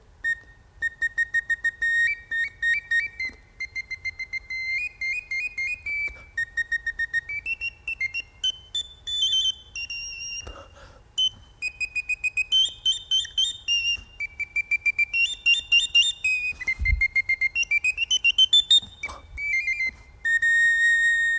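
A high, pure-toned whistled tune for teaching a woodlark, a short piece from the bird-teaching method Bird Fancy's Delight, made of quick repeated piping notes that step up and down in short, bright phrases, played alone without any talking.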